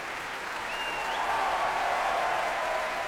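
Sustained applause from a large audience at a Proms concert in the Albert Hall, a dense, steady wash of clapping at an even, moderate level that holds throughout, with no voices standing out.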